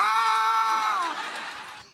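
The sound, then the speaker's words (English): A single loud, high-pitched scream held for about two seconds, its pitch wavering slightly before it fades and trails off at the end. “Just loud screaming just in their scream ear. Scream and yell.”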